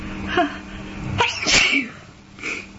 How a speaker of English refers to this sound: No. I'm just tired of it, because I've been doing nothing but sneezing. Since I got my stupid cold.